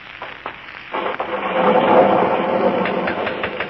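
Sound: thunder rumbling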